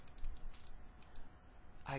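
Quiet, scattered clicking of fingers typing on a computer keyboard, soft against a low background hum, with a brief vocal sound near the end.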